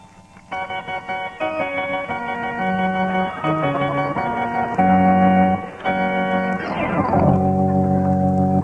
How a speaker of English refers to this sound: All right. I'll just finish my organ solo, Bud, and you hold up the applause sign.